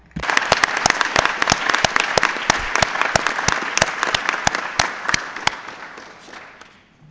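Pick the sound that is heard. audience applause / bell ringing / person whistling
audience applause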